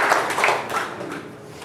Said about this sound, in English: Give the Lord a hand of applause in your house.